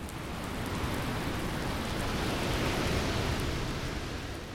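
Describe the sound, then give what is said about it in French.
A steady, dense downpour of rain in a thunderstorm with a constant hissing roar and faint pattering drops, holding an even loudness throughout, with no distinct thunderclap standing out. “L'orage éclatait dans le ciel.”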